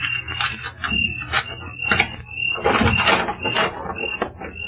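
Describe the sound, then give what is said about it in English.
A door is worked open, with several seconds of rattling, clunking mechanical noise and a thin, sustained squeak running through it. “I'll open the door.”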